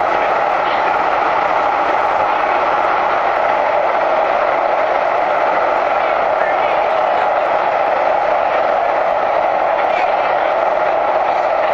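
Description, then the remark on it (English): Loud, steady roar of a blue line train running through an underground tunnel, with dense rumbling rail and wheel noise filling the whole clip without letup. “The reason it was so loud is because we were underground, and these trains have different wheels than the subway does.”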